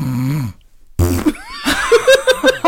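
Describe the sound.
A voice imitates someone's loud snoring on falling asleep: a buzzy, rasping snore, a short pause, then a louder snorting rattle breaking into rapid choppy bursts, alone.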